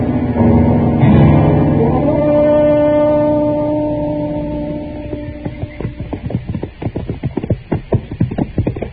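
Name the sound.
horse hooves clip-clopping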